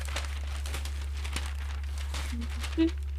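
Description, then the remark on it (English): Newspaper pages rustle and crinkle in scattered bursts as they are flipped and handled, soft, over a steady low hum with no one talking. “Go through your paper, count how many pictures of George Clooney you have.”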